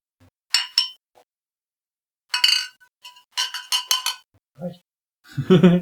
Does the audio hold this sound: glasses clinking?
yes